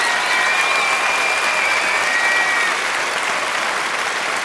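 Steady, dense applause from a crowd, a continuous roar of clapping that holds at a loud, even level throughout, with a thin whistle-like tone briefly riding above it.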